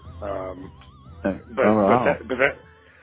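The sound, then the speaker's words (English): A human voice mimics a cat, producing a few drawn-out, gliding meow-like cries, with the last two louder and more emphatic than the first. “It's pretty interesting, actually, but he does that sometimes. He goes meow, like he just really yeah, like if you say so, if you give him a compliment directly, he'll say meow to it, you know what I oh mean?”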